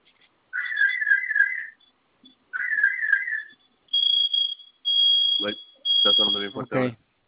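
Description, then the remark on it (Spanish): An alarm system siren, set off as a test by holding two fire-icon buttons together for 5 seconds and silenced by entering a code, sounds in repeated high-pitched bursts, first warbling tones then steady shrill beeps, loud and insistent, with a voice briefly speaking over the final bursts. “Presione esos dos botones al mismo tiempo durante 5 segundos. Se va a activar su sirena y me ayuda a colocar la clave que registro, por favor.”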